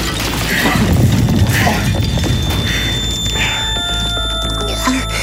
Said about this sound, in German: Da ist was eingekracht. Es ist explodiert.